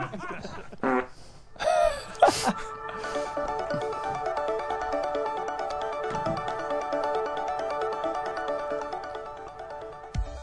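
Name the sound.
fart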